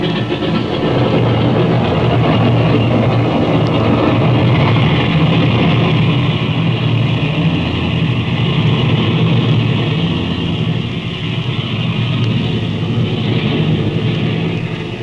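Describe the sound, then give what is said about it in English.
Airplane engines roar loudly and steadily for the whole stretch, a dense, droning rumble with a low throb and a hissing wash on top, as if the craft is revving up for takeoff. “You take off and I'll follow you.”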